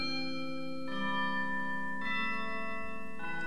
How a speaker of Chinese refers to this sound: 你听钟声响亮响亮，在圣诞节，在圣诞节。你听钟声响亮响亮，在快乐圣诞早晨。